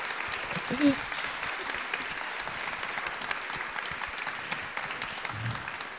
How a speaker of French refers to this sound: En tout cas, merci beaucoup. On va les applaudir tous les deux parce merci.